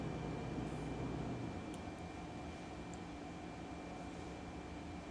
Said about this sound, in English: I can hear my refrigerator keeping the food fresh and cold.